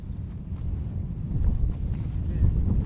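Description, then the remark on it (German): Strong wind blows steadily from the sea over a sandy landscape on the outskirts of Sarsis, a low rushing roar that buffets the microphone and swells slightly louder midway, with no clear voices over it. “Der Wind pfeift vom Meer her über die sandige Landschaft am Stadtrand von Sarsis.”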